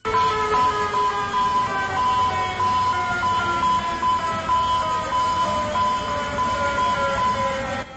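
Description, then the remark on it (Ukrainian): A modern distress signal sounds in the Atlantic port of Caracas, Venezuela: a loud, steady electronic wail with layered tonal pitches that drone on without a break for the whole stretch, with no voices. “Щойно ви чули звуки сучасного сигналу біди у Атлантичному порту Венесуели Каракасі.”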